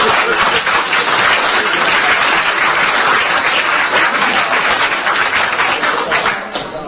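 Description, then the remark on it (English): A crowd applauds loudly and steadily, dense overlapping clapping that holds for several seconds before starting to thin out at the end. “Listen to that. Listen to the applause.”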